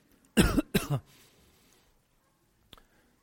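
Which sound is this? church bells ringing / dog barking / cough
cough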